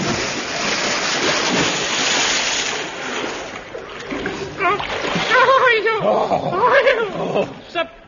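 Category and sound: sound effect, splash into deep water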